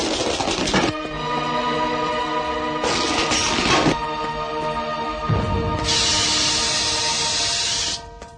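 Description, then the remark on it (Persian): Smoke and tear gas hand grenades thrown into a car-service agency land with sharp crashing bursts, then a loud, steady hiss of gas pours out for a couple of seconds, with no voices. “دستی نارنجک دودزا و اشکاور به داخل آژانس میندازه.”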